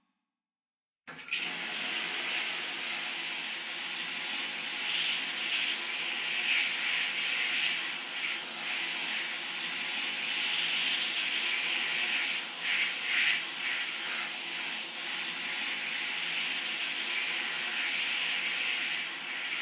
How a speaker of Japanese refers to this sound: 少し気分を変えさせていただきます。シャワーで泡を洗い流しますね。